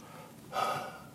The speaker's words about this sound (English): You're breathing really heavily now. Are you all right? I'm just a little bit worn down.